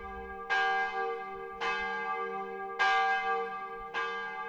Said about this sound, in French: je montai à l'appartement le plus élevé de la maison d'où j'écoutais d'un cœur palpitant le son des cloches qui annonçait que la cérémonie allait commencer.